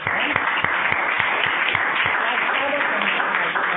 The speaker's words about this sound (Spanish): Es un aplauso para él.